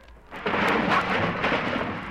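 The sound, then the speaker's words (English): A radio sound effect of Fibber's overstuffed closet crashing out as he opens the closet door: after a brief quiet moment, a loud, dense rumbling clatter bursts in and keeps tumbling steadily for about two seconds, with no voices. “When Fibber opens up his closet door, look out! Well, I guess he must have cleaned out the closet.”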